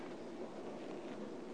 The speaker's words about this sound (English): Oh, it's good to hear the pages turning.